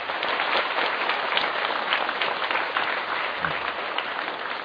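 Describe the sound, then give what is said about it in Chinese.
A crowd claps steadily to welcome a Dharma master arriving at the gathering, the dense patter of many hands holding at an even, fairly loud level throughout with no voices rising above it. “啊，果然德瑞法师来到现场哈，那掌声一下。”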